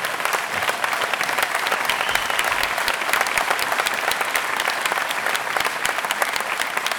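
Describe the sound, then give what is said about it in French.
Sustained audience applause for the team from Toulouse, a dense, steady patter of many hands clapping at an even loudness for about seven seconds, with no voices standing out. “Faire dire un grand merci à l'équipe de Toulouse, que je vous demande d'applaudir parce que pour l'avoir vécu.”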